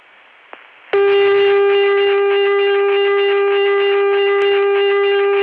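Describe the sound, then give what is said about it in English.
A heavily distorted Chicago telephone dial tone, reached through a touch-tone access, starts abruptly after a moment of faint line hiss and a click, then drones on loud and steady, buzzy and harsh with rich overtones; the harsh distortion comes from a bad connection. “You can touch tone into that, and the call will go through as fast as possible, but the connection is so distorted that the dial tone actually...”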